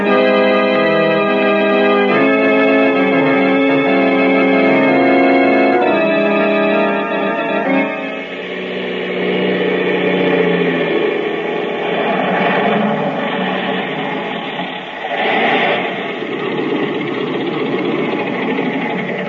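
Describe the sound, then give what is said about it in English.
A small propeller plane's engine cranks on its automatic starter with a steady harmonic whine, then catches and roars into a louder, rougher drone that swells and wavers as it builds power for takeoff. No voices. “Thank heaven this plane's got an automatic starter.”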